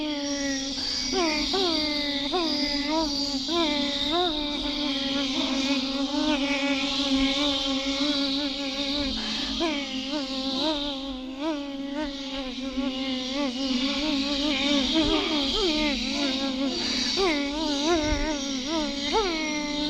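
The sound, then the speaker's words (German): A steady insect buzz of a bee swarm drones without a break for the whole stretch, its pitch wavering slightly up and down as many bees hover together. “Der Bienenschwarm.”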